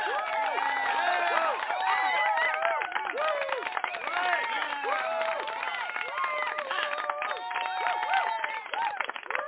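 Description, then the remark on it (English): An applause sound effect, accidentally triggered by a show host: a crowd applauds steadily for about ten seconds, dense clapping mixed with loud cheers and whooping voices, holding an even, lively level throughout with a slightly muffled, thin tone. “I didn't mean to hit that, but I'm going to give applause to that, but I'm going to do it again.”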